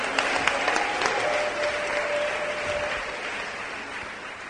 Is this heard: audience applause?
yes